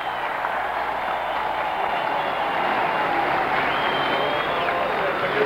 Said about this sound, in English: The crowd seems to be getting more active here, waving hands more vigorously, more applause, more shouting.